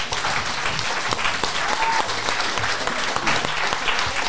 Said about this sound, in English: Everybody, thank you so much. Another big round of applause for our panelists.